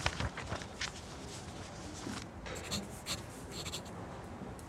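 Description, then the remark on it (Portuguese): A pen scratches across a paper request document in a run of quick, uneven strokes, like a signature being dashed off, with a faint tap at the end and no voices. “Passa-me o requerimento, senhor Anastácio, e uma caneta.”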